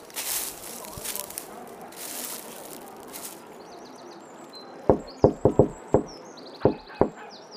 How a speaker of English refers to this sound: Can't you read the sign over there? It says no knocking on the door during work hours.